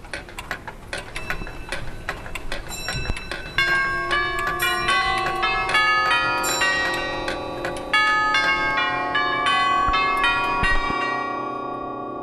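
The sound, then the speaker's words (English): A dense chorus of hundreds of clocks and watches chiming and striking the hour together at 8 o'clock in the morning in the Museum of Time, Waterford, near Reginald's Tower. Bright overlapping bell tones ring out in a sustained, layered wash over steady ticking, growing fuller partway through and slowly decaying at the end. “It has hundreds of clocks and watches of all sizes.”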